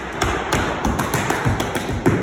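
Tap dancing shoes strike a hard floor in a quick, uneven run of about a dozen sharp, bright clicks and heavier thuds, steady in loudness, with no voices.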